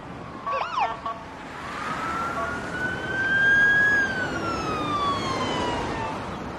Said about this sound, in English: He takes a deep breath and watches an ambulance speed by.